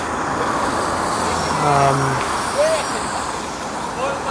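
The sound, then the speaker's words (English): A city bus rumbles past on a busy street, its engine hum swelling in the middle, followed by a brief high brake squeal over steady surrounding traffic noise. “I saw another bus, and I was hoping that would be another one of the lines that goes to the train station.”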